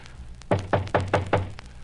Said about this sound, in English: All right, rap on the door.